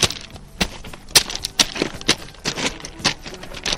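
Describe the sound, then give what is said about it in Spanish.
Crunching of railway ballast stones underfoot, a run of sharp gritty crackles and clatters arriving in an uneven walking rhythm, fairly loud and with no voices. “Oye, ¿qué sonido más bonito tiene el balasto, eh?”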